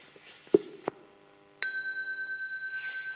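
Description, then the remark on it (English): A single bell is struck and rings out clearly as a signal for a class to assemble, its bright metallic tone sustaining steadily for over a second and a half. A couple of faint knocks and handling sounds come just before it. “When you hear this bell, means you're supposed to assemble back here, okay? I will ring it for you to listen.”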